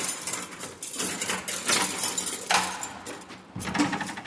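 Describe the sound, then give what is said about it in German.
Keys jingle and scrape in a heavy door lock as a prison public relations officer unlocks the doors leading into Section 3, the former penitentiary, at JVA Tegel prison in Berlin, with bright metallic clinks and rattles, then a dull clunk as the bolt turns near the end. No one speaks. “Beauftragter für Öffentlichkeitsarbeit in der JVA Tegel, schließt die Türen auf, die in die Teilanstalt 3 führen, das ehemalige Zuchthaus.”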